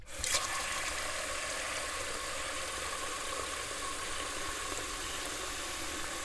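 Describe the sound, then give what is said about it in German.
Water runs steadily into a cooking pot being filled to make tea, a constant rushing hiss that starts abruptly and continues without a break. No one speaks. “Georg füllte Wasser in einen Topf.”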